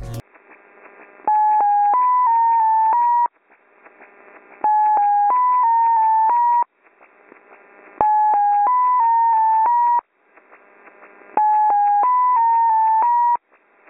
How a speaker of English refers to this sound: That's XO6, and as you can hear from what you've just heard, it is a series of six tones, usually broadcast in upper sideband, though we have seen it in AM very often.